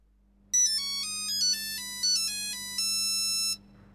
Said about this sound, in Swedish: En kväll hade Tom Andersson goda vänner på middag. Då ringde telefonen och Tom måste gå och svara.